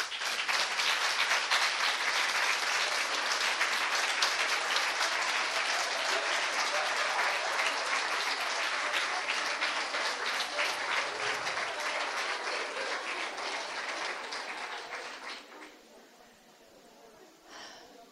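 Sustained audience applause from women under 45 honoring older women, a dense wash of many hands clapping at steady loudness for about fifteen seconds before tapering off and fading near the end.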